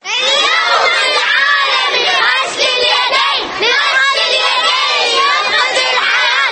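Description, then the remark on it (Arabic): Schoolchildren at a primary school in central Baghdad, Iraq, shout welcome slogans together in loud, sustained unison, their high voices continuous with brief dips, like an energetic group chant, greeting education and health officials at a central Global Handwashing Day celebration held by the Ministry of Health with the Ministry of Education. “بهذه العبارات استقبلت حناجر الأطفال في إحدى المدارس الابتدائية وسط بغداد الشخصيات التربوية والصحية المشاركة بفعاليات الاحتفالية المركزية التي نظمتها وزارة الصحة بالتعاون مع وزارة التربية بمناسبة الذكرى الثانية لليوم العالمي لغسل اليدين.”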